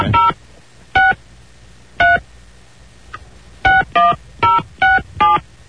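Telephone keypad tones beep as a number is dialed: three evenly spaced presses about a second apart, a short pause, then a quicker run of five, clear with no voices.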